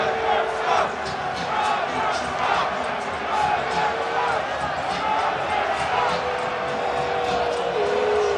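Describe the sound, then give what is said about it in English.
A large stadium crowd of Kansas City Chiefs fans roars steadily as Roger Goodell stands in the Kansas City end zone with Chiefs owner Clark Hunt, a dense wash of cheering with individual shouts and drawn-out yells rising above it, loud and unbroken from start to finish. “But a little bit more from the crowd now.”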